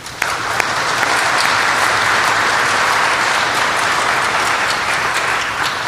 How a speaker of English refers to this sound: So before we begin, please welcome these panelists and join me in a round of applause.